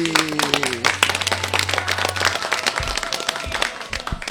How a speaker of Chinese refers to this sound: 那我们下面一位呢也是新朋友，我们同样的掌声有请